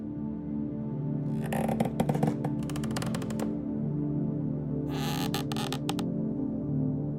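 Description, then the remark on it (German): A heavy oak door opening into the centuries-old library of a castle creaks open in two drawn-out bursts of rapid, grinding ticks over a steady low hum, with no voices. “Mit einem leisen Knarren öffnete sich die schwere Eichentür”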